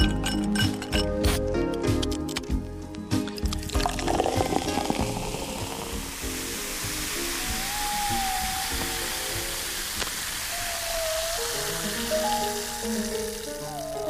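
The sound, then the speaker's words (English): A fizzy drink is poured into a glass, starting with a splashy gush and a few clinks, then settling into a steady hiss of bubbles with a faint rising tone as it fills. “And as the bubble fills the glass, so I fill the air.”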